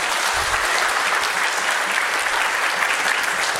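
An audience claps steadily, a dense, even wash of many hands at a constant, fairly loud level throughout, with no voices standing out.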